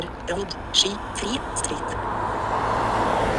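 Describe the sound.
A car approaches along a road outdoors in sunshine, its broad tire and engine rush swelling steadily louder toward the end, with brief faint voice-like sounds early on.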